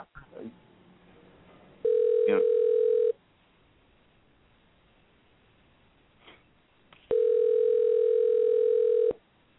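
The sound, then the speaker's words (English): A steady, loud telephone tone sounds in two separate stretches of about a second and two seconds while someone types in numbers to place a call, with faint clicks and a quiet line between them. No one speaks. “I'm sitting here typing numbers and the machine's not there.”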